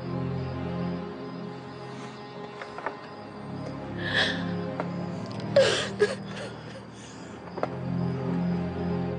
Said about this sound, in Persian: تو رو خود گریه نکنه.